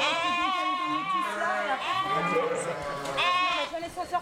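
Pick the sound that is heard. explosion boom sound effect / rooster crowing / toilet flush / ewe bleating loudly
ewe bleating loudly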